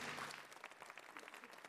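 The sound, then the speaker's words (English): Audience applause welcoming a speaker at an event, a dense, steady patter of many hands clapping at once, moderately loud and sustained without any voices over it. “Please give a welcome applause.”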